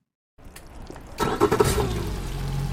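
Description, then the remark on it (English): A small boat motor cranks and catches after a brief silence, sputtering into a steady, low engine rumble that grows louder, as the boat sets off on a short crossing of the Jones Falls River. No one speaks. “The boat ride from one side of the Jones Falls River to the other takes about 22 seconds.”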